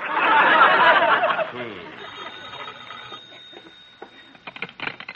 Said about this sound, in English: Shall I answer the phone, boss? No, I'll get it.